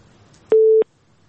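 signal or alarm, telephone busy tone

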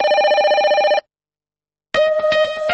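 signal or alarm, telephone ringing

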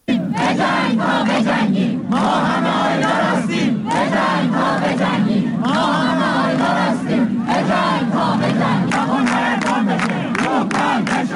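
crowd, students chanting

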